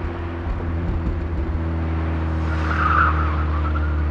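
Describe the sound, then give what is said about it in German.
A car engine roars with a steady, low droning hum as the car speeds up to 130 km/h on a road with an 80 km/h limit, and a brief, rising tire squeal comes in toward the end. No one speaks. “Pass auf, ich fahre jetzt mal ganz schnell.”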